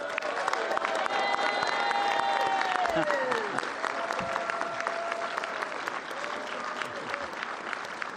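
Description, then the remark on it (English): Steady applause from a sizable convention audience for about eight seconds, dense clapping with a faint whistle-like tone and a few voices rising beneath it, honoring a retiring staff member. “So we should give a round of applause”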